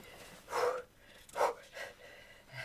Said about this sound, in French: Excusez-moi, ouais, je suis un petit peu essoufflée là. Ah ben, je viens de traverser une ville hein, où tout le monde courait.